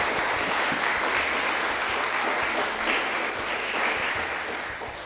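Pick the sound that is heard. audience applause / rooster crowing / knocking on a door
audience applause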